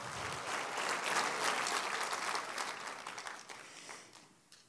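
An audience at a church service claps for God in dense, sustained applause, loud and unbroken for several seconds before thinning and fading toward the end. No one speaks over it.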